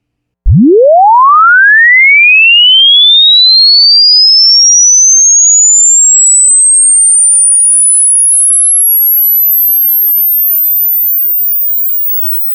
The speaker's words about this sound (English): First, though, turn down your system a little. We're going to start with a swept sine wave from 20 Hz to 20,000 Hz at a maximum system level, 0 dB full scale.